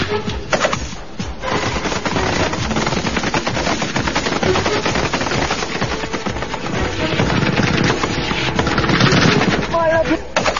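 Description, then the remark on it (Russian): Heavy automatic gunfire as bandits open a barrage of fire on special forces troops at night, rattling almost nonstop for about ten seconds, with dense rapid bursts of sharp cracks that stay loud throughout and swell slightly toward the end. “В ответ бандиты открывают шквальный огонь.”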